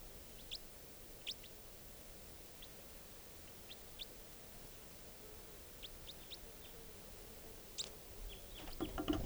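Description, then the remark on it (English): Faint, short, high-pitched chirps from a juvenile wild bird, perched on a cage, come at irregular intervals over a steady hiss of background noise, with no one talking. “And the bird just flew down, and now it's perched on 461's cage.”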